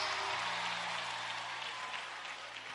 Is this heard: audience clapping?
yes